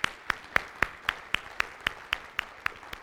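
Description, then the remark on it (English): Hands clap together in a steady, even rhythm, about eleven sharp claps in three seconds, crisp and moderately loud with no voices over them, as an audience claps in praise to God during a morning worship service. “I'm so thankful to see you here this morning, and let's just give God another hand clap of praise for being so good.”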